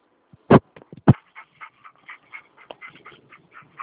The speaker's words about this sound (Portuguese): Tem um cachorro dentro, cara? Tô com três cachorros aqui. Com três boiadeiros aqui comigo.